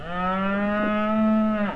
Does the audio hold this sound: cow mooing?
yes